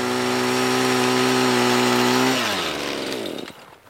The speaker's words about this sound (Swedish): Så vi packar ner den stora trälådan och kör ut med skotrarna mot grundare vatten.